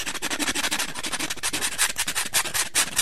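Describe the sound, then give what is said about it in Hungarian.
A nail file rasps over fingernails in quick, steady back-and-forth strokes, a dry, hissy scratching that repeats about six times a second with no voices. “Újabb 3 napos menetelés után már nagyon koszosak és rendezetlenek voltak a körmei, leült hát egy fatönkre, elővette a körömreszelőjét, és neki állt szépítkezni.”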